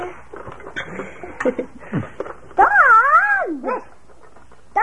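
A dog lets out short yelps and whiny barks, then a loud, long wavering howl that rises and falls before breaking into another quick bark.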